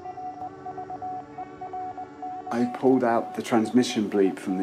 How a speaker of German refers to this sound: dieser eine Satz, wird gesprochen wie auf einer Weltraumkontrollstation der NASA, unterlegt von einem Original-Morse-Code dieser Mission.